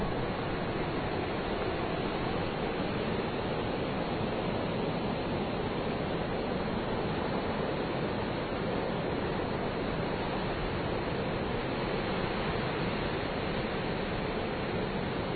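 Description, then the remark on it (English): A steady, dense roar of wind and ocean surf, continuous and fairly loud, with no distinct individual wave breaks standing out and no voices. “Alright, if the wind can just please die down for a second, we might be able to hear the sound of the waves.”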